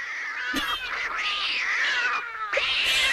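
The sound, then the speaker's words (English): Cats yowl and caterwaul in a cat fight, a sustained, wavering cry that rises and falls, with a brief break and a sharp renewed wail near the end; loud, no talking. “Yes, it is a cat fight everywhere, it seems like.”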